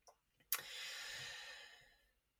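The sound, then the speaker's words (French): One long, breathy yawn, starting abruptly after a brief click and tapering off over about a second and a half, with no talking around it. “J'ai une prof de yoga qui disait que quand tu bailles, tu augmentes ton taux vibratoire.”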